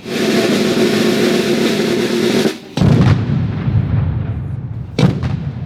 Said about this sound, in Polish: A jak armaty? Głośno było? No bardzo głośno!